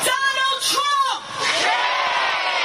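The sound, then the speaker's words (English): A protest crowd at a rally in New York City, after a march across the Brooklyn Bridge under blazing sun, protesting U.S. immigration family separations, shouts and whoops loudly, many voices yelling at once with a couple of rising calls standing out, then blending into a continuous roar of cheering and chanting. “This rally in New York City started with a march across the Brooklyn Bridge under the blazing sun.”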